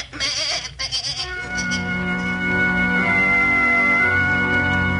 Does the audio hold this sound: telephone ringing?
no